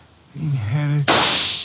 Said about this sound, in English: Down, Mr. Wolf, quick. Somebody shooting from that window.